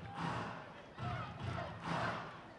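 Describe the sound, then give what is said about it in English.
A baseball crowd of 5,313, the largest of the season, roars and chants in three rising surges with the bases loaded, a dense, broad wash of voices imploring their team to score more, loud throughout with no single voice standing out. “This crowd of 5,313, the largest of the season, imploring their team to score more.”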